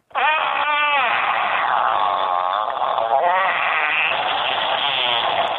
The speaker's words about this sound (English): What the hell is that? It's obviously a long fart, which made it totally worth it.